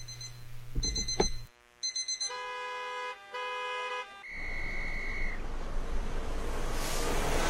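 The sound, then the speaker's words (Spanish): An alarm clock rings loudly in electronic beeping bursts, repeating in quick pulses before a steady high tone, then giving way to a broad noisy hiss. No one speaks. “Cada mañana comienza con una alarma que interrumpe el sueño.”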